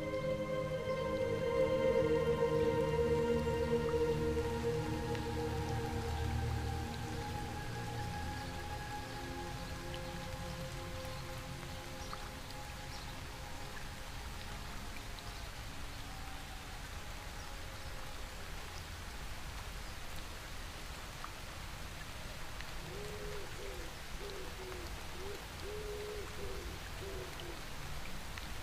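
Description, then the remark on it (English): Steady, even rush of water falling from height at a woodland waterfall fills the whole clip, with a low tonal hum fading out in the first seconds and faint hoots like an owl's near the end. “Each step you take through the undergrowth leads you closer and closer to the sound of water falling from height.”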